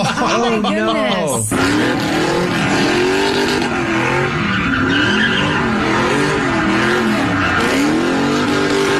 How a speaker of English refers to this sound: They stopped traffic and they started doing donuts right on the bridge.